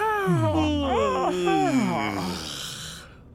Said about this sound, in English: I'm all done folding now. We can all... yawn.